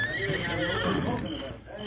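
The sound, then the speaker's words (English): A horse neighs loudly, a shrill whinny with wavering harmonics that fades over about two seconds, with faint hoof shuffling underneath. “You stay here, horse.”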